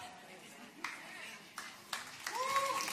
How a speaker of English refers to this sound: Yeah, you should clap.